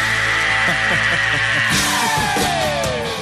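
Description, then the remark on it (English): A rock singer lets out a loud, sustained high scream over a full band, holding the note before it slides downward near the end. “This time we bring you the most outrageous screams in the history of rock and roll.”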